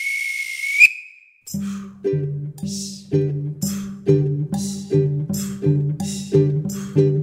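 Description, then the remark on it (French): A single high, steady train whistle blows for just under a second with a hissy edge as a little train departs, then a rhythmic chugging beat with low tones starts and repeats steadily. “Roule, roule, petit bout de roule, comme un grand sur le chemin de fer, il roule, il déboule.”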